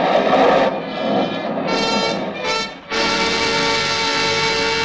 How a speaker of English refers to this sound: Suddenly a signpost looms up in front of the car. The car swerves and skids.